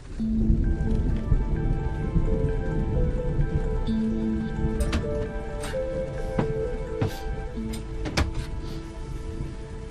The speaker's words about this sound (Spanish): pero con tan mala suerte pues que empezó a llover y nos metimos en la caravana a jugar a las cartas.